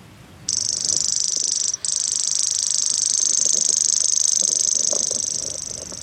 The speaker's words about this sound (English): Well, it does sound like an insect, but I think what that is a grasshopper warbler. So it's a bird that makes the same sound as a cricket.